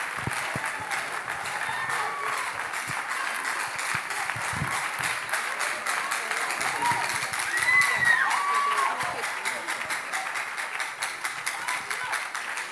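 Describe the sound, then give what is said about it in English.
A sustained round of audience applause fills the room, steady and dense throughout, with a few faint cheers and whistles rising briefly near the middle, as a man comes to the podium to speak. “Please give a round of applause, even as he comes to the podium.”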